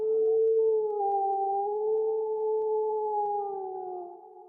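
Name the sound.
wolf howling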